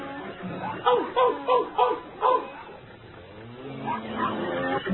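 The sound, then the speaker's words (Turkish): Dogs bark aggressively during a meeting in a farm barn, a rapid burst of five or six loud, harsh barks, followed by a quieter stretch of low, muffled background sound. “Köpek yoldaşlar, neden düşmanca havlıyorsunuz?”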